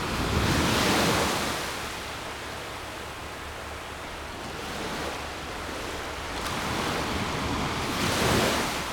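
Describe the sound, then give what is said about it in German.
Ocean waves of cold water surge onto the shore in broad, rushing swells that rise and fall every few seconds, with a steady roar of surf and light wind noise underneath. No one speaks. “Gehen wir das nächste Mal runter und stellen die Füße in die Wellen.”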